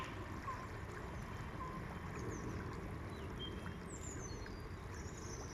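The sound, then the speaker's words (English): The River Calder flows steadily with a broad, continuous rush of water, moderately loud, while thin birdsong chirps drift faintly above it; no one speaks. “I listen while the river offers peace. Shh. Can you hear it?”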